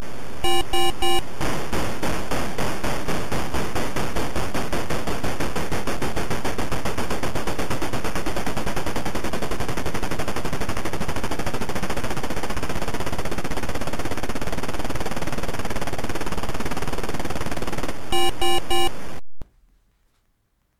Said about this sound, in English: it draws a steam train and makes chugging sounds as it progressively moves faster and faster down the screen